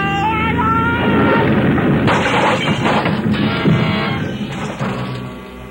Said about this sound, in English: For a long moment, there was nothing but a vague blackness all about me, and the sound of our crack-up seemed to roll and echo almost dreamily back and forth in the deep recesses of my mind.